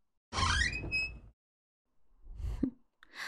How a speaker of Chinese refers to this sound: 终于舍得开门了，早就看到你溜回寝室了，敲这么半天门都不开。